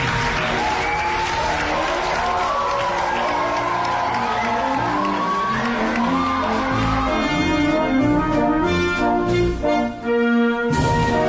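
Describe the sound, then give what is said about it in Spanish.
An audience breaks into sustained applause with cheers and whoops for the queen of the Magdalena festivities, the clapping dense and steady throughout, and near the end music with a bright melodic line swells in over the crowd. “Un aplauso para la reina, ¿no?”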